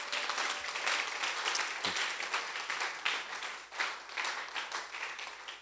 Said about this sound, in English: Oh, somebody should clap for the Lord.